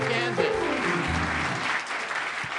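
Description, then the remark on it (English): An audience applauds with dense, steady clapping that holds at an even loudness for a few seconds, with a brief vocal whoop or cheer mixed in near the start. “Another round of applause, Nebraska.”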